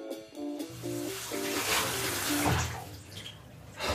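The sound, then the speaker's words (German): Water runs steadily from a tap, splashing and gurgling over a vacuum cleaner filter being rinsed under the stream, fairly loud, with a few brief tonal squeaks near the start and no talking. “Okay, das Wasser, was aus diesem Filter rauskommt, ist dunkelschwarz.”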